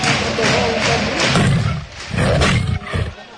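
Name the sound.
tiger roar sound effect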